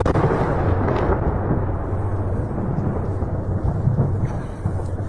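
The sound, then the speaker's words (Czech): Explosions from a Russian missile strike targeting the airfield in Ivano-Frankivsk roll together into a deep, sustained rumbling roar that stays loud and heavy for the whole stretch, with no separate blasts standing out and no voices. “Так пацують російські ракети. Почався обстріл.”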